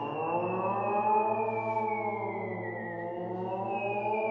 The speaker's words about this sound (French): Les sirènes hurlent.